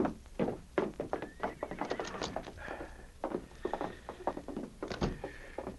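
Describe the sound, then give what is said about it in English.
Horses' hooves clop in a steady, uneven patter behind a small roadhouse, with a brief whinny rising over the footfalls near the middle. Nobody speaks. “the outlaws left their horses in back of the small roadhouse and followed Chet to the front door”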